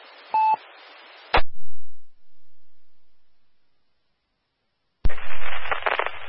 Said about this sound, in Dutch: Wie was dat? Dat was volgens mij die heb ik eerder gehoord dit signaaltje. Je ziet eerst een piep en dan kwam hij in de band. Wie was dat?